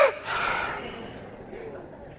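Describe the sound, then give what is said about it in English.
A deep diaphragm breath, done as a group exercise: a noisy rush of air that swells quickly and then slowly fades away over about two seconds, fairly soft, with no talking. “Number three, diaphragm breathing. Everybody all together.”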